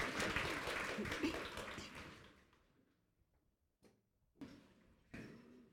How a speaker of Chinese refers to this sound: 让我们拍手欢迎